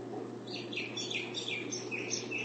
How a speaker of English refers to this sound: Oh, there's your bird. Sing and let them sing and let them sing. That's the first time in months.